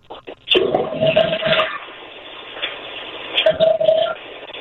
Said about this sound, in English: All right. And when you look in there, you see a regular flapper, right? Yes. All right. Flush the toilet for me.